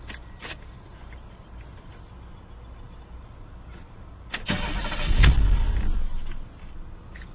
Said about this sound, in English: What you're about to hear will be with the microphone position at the head level, with the car starting with the door open, and then I'm going to close the door to give you a feel for how loud it is with the door closed. Okay, here we go.